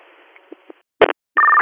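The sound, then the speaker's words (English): A short crackling burst of radio static, then a steady, loud electronic tone made of two pitches, like a dispatch alert tone sounding over a radio channel. No one speaks. “Would you like another set of tones?”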